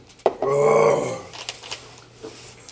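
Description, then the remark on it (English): A dog growls once, wanting to come in: a short, throaty, tonal rumble lasting about half a second, fairly loud, followed by quieter scattered knocks and faint background noise. “The dog wants in.”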